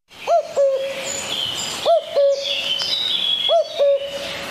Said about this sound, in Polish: My budzimy godzina 8:40 na naszych zegarach, a obudzimy się razem z ptakami.